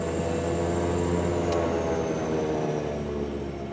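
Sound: airplane engine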